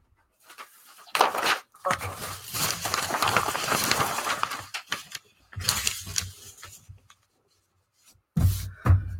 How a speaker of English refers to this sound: Spray bottle, drench it. This technique works a lot better when your paper is fully saturated with water.